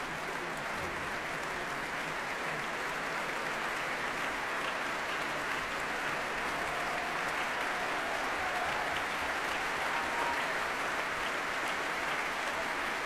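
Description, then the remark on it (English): Sustained applause from a large, packed audience in the Royal Albert Hall after the Philharmonia, conducted by Esa-Pekka Salonen, performs in an all-Russian programme: a dense, steady wash of clapping hands that holds at an even level throughout, with no voices standing out. “Very cheerful crowd here in the Royal Albert Hall, packed again for this all-Russian programme under Esa Pekka-Salonen.”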